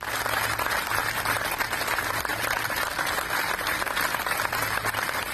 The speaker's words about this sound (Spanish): Son los aplausos de los profesionales, sanitarios, trabajadores de todo tipo y pacientes del Hospital Gregorio Marañón de Madrid. Están recordando con estos aplausos a las decenas de miles de víctimas del coronavirus